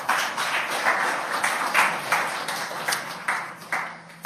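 An audience applauds a volunteer on a stage with steady, dense clapping that swells in bursts, carrying on loudly for several seconds with no talking over it.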